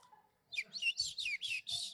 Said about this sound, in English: So it's early in the morning, you're drinking your cup of coffee on the porch, the birds are chirping, you're listening to them, and you think, you know what, I wonder, nobody around.